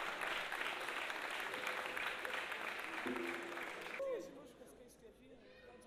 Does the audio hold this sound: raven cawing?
no